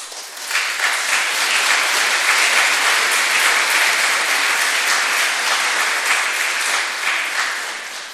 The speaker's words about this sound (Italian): Grazie anche per l'applauso.